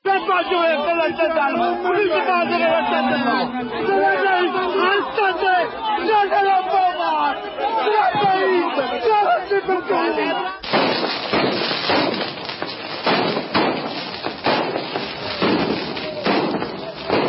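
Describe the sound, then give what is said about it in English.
A dense crowd protesting a landfill near Naples, Italy, shouts and screams together, loud and chaotic; partway through, the din turns into harsh noisy bursts with sharp bang-like impacts. “Take a listen to what it sounded like with the screams and I think some of the other things, the sirens that you can catch in the background.”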